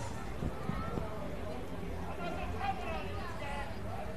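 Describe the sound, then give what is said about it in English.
A low, steady murmur of a quiet night-time crowd at a baseball game between the Tortugas and the Cardinals, many indistinct voices blending into a soft, even hubbub with no single voice standing out. “We've got a quiet crowd here tonight.”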